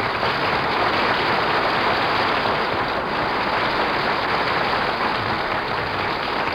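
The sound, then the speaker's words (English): A large audience applauds steadily, a dense wash of clapping that stays loud and even for several seconds without pause, with no voices standing out above it. “did you hear that applause, Mary? Everybody's glad to see you.”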